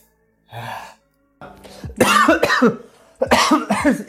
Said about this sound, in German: Erstmal voll ins Gesicht gehustet. Okay. Das war jetzt hier nicht so abgemacht.